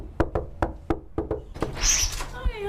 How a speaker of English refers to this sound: I'm going to knock on the door.